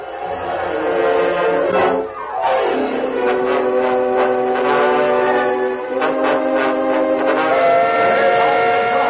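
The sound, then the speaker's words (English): A loud, sustained steam train whistle blows as the first passenger train to Dry Creek prepares to depart, its chord-like tone holding steady for several seconds with a brief dip partway, no voices present. “There's the whistle, folks.”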